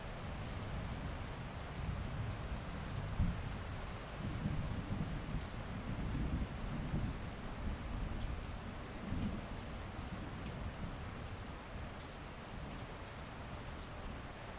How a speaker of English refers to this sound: As the thunder rolled, the rain fell gently, creating a gloomy mist out over the sea to our left as we journeyed on towards Skouri, our overnight stop.